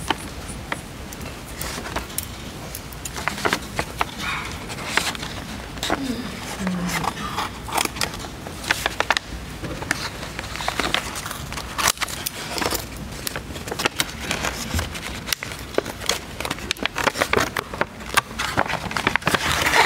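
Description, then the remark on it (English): Scissors snip and crunch through an evidence package holding an unfired 12-gauge shot shell submitted with a camouflage Benelli shotgun, with steady crinkling and crackling of paper or plastic for the whole stretch and faint voices in the background. “Could you go ahead and open that package for us, please?”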